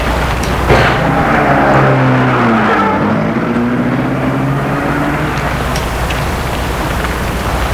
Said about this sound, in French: Et il sort de voiture. Et la voiture s'en va.